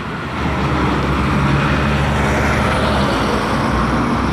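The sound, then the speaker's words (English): A trash truck rumbles past, its deep engine roar rising after a brief moment and holding steady as a loud, continuous low-pitched drone. “And that is a trash truck going by.”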